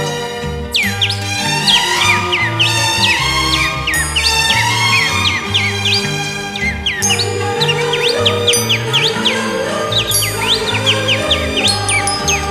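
Rapid bird chirps and whistles trill repeatedly over a steady instrumental backing of sustained bass notes and plucked strings, the chirping bright and prominent throughout.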